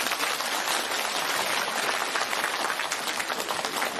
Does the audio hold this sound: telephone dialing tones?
no